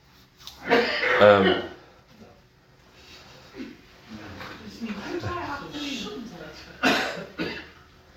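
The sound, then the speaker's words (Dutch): During a Dutch-language group discussion of Paul's letter to the Philippians, a loud, sharp sneeze bursts out near the start, followed by a stretch of quiet talking and then a second, shorter sneeze-like burst toward the end. “Gezondheid”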